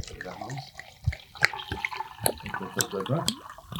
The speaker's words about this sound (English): Do you want me to pour some water? Well, I'm just slightly struggling with only having two hands. Two hands and one on a mic. Yeah. I'm starting off with giving you an impossible task of... But look, we've achieved it. Filling your water.